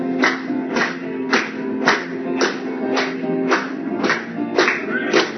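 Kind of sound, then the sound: crowd, audience clapping hands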